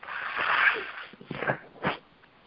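A person sneezing: a few sharp, breathy bursts, a longer one first, then two quicker ones in succession, with no talking.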